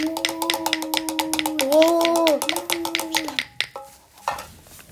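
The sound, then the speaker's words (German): A cowbell solo played by Brünnhild, a black-and-white checked Holstein dairy cow, accompanying a flamenco: rapid, steady cowbell strikes ring out over a sustained droning tone, keeping an even rhythm for a few seconds before stopping abruptly, followed by a couple of faint scattered sounds. “Alfonso, der andalusische Vollblutstier, präsentiert einen feurigen Flamenco und Brünnhild, die schwarz-weiß karierte Holsteiner Milchkuh, begleitet ihn mit einem atemberaubten Solo auf der Kuhglocke.”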